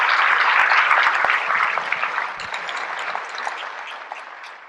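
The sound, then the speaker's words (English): A crowd applauds steadily, a dense wash of many hands clapping at once, loud at first and tapering slightly over several seconds, with no voices heard. “And for that, I want to applaud all of you for doing that, for showing us the alliances for the Muslims.”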